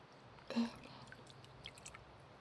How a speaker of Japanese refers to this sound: それではお湯で流していきますね。泡が残らないように